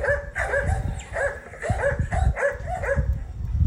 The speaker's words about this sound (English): You're probably wondering about the barking dogs. Yanni is short for Yonder. Hither and Yonder were the two Harlequin Great Danes belonging to Dr. Norman, the heart surgeon directly in charge of the lab.